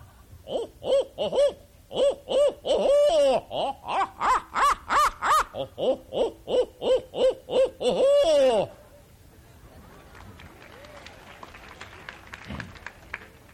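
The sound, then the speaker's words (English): A person imitates a barn owl call to call up owls while out hunting, a loud run of rapid rhythmic hoots with rising, wavering cackles, lasting about eight seconds before giving way to quiet background rustle. “Your barn owl, a monkey-faced owl. I have a lot of fun when I'm out hunting. Call up the owls, and I go to sleep, and they keep my buddies awake all night.”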